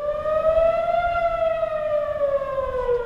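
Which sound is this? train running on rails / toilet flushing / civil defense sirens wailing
civil defense sirens wailing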